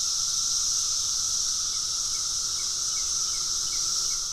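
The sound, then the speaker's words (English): Male cicadas sing using the timbals under their wings, a steady, shrill electric buzz that holds at an even, loud level for the whole stretch, with a fainter lower hum beneath and no voices. “The males start singing their hearts out using these mechanisms under their wings called timbals.”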